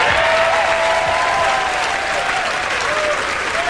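Loud, sustained audience applause welcoming a legendary guitarist, singer and songwriter, a dense wash of clapping hands at steady volume throughout, with faint whistles and cheers rising through the crowd noise.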